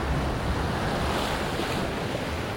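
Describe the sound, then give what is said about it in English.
Steady, dense rush of churning seawater, loud and continuous with no breaks, a turbulent tidal surge flowing like a river below a rocky headland at Deception Pass, at the north end of Whidbey Island, with some wind buffeting mixed in and no voices. “Stand on a rocky headland above the turbulence of the tidal surge flowing like a river.”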